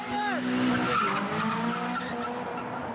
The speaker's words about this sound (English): Drifting is skidding the car sideways as you travel forwards. This leaves wavy tyre marks along the road.